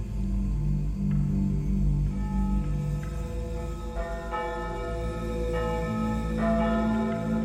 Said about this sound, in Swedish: Det är tidig morgon, söndagen den 2 augusti, och Anna är ledig från fabriken när hon hör kyrkklockorna. De ringer nu över hela Sverige för att meddela den tunga nyheten om att första världskriget har brutit ut.